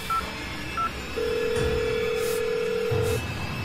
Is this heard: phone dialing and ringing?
yes